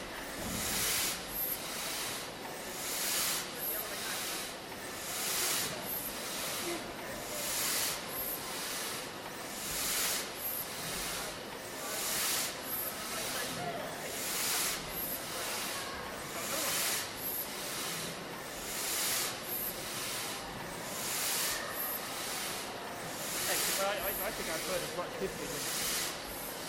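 A steady, loud hiss fills the whole stretch, pulsing in a regular rhythm of bright, airy bursts roughly every second, with no break or silence between them.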